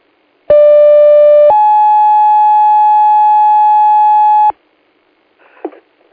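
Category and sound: signal or alarm, radio dispatch paging tones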